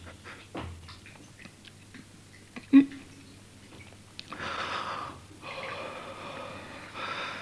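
Wet mouth sounds of someone gulping down all the water: several swallows with snorting breaths, a sharp click partway through, then a stretch of heavy, noisy gasping.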